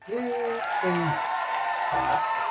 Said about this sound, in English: What was I going to use? The crowd cheer.